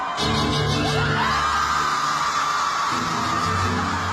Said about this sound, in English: And then the screams go for about 45 minutes.